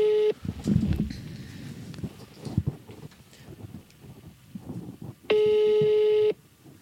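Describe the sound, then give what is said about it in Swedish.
A phone call being placed: short dialing tones and clicks, then a steady electronic ringback tone lasting about a second, with no talking. “Okej, nu ringer jag.”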